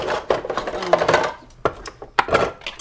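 Plastic dishes clatter and knock as they are lifted out of a dishwasher, a string of irregular hollow clicks and rattles of moderate loudness with short pauses between them.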